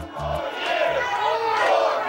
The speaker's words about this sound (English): Now, they're not cheering for President Biden. Those are people in Harlem cheering for President Trump.